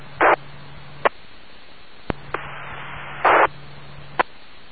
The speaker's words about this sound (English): I heard a little bit of static there. I don't know if that was somebody trying to get through. You want to try it again? Can anybody make that guy out? I heard a voice in there, but I couldn't make it out.